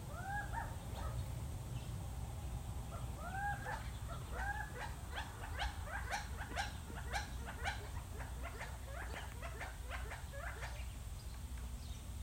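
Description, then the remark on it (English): Gambel's quail, a ground bird, calling: a few upward-swooping call notes, followed by a busy run of quick, sharp chips and notes. The birds sound clear over a steady low rumble. “All right, our fourth bird is a true favorite of the southwestern dwellers here in this area, the Gamble's quail.”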